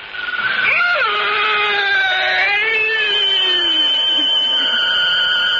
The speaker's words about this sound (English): The priest drove the sharpened oak stake through the body. And that fearsome shriek which still sounds in my dreams rent my ears.